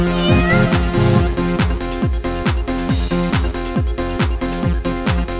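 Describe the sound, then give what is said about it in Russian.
A cat meows over a steady, loud electronic music beat, its wavering cries most noticeable near the start before the thumping rhythm and sustained tones take over. “пес залаял из двора на бездомного кота.”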